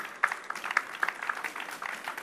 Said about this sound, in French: On peut l'applaudir.